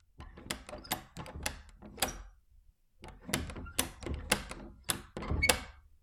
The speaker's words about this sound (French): La porte se referme sur elle. Des bruits de marteau battent la porte d'entrée.